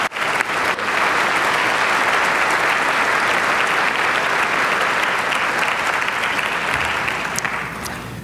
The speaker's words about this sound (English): Please join me in a warm round of applause for each of today's candidates.